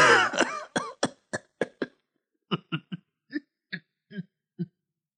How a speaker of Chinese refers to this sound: 接着葛明礼就假装咳嗽，掏出手绢堵在大嘴上，把嘴角上的笑纹挡住，把笑堵回去了。